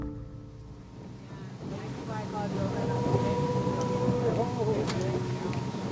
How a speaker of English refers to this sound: steers the small boat out onto the water. The people on board will become quite chatty later, but for now, everyone is quiet.